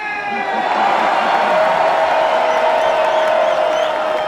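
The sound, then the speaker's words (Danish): The crowd at a Danish-language wrestling show roars, sings and cheers steadily, American-style, a loud dense wash of many voices with sustained shouting and whoops throughout, without clear breaks. “Wrestlerne bruger engelske karakternavne, og publikum synger og hæpper, som man kender det fra amerikanske shows.”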